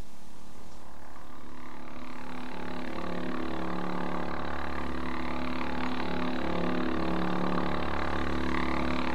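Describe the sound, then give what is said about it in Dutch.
A steady, loud airplane engine drone heard from inside an airplane in flight, humming continuously throughout, with layered low tones and a constant mechanical whine running without pause. “En ik word gek van dat gebrom.”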